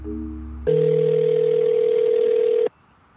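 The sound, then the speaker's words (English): A loud, steady telephone dial tone, heard while phoning a number, holds one unbroken pitch for about two seconds and then cuts off abruptly, preceded by a low hum of quieter tones. No one speaks. “why don't we try to phone that number?”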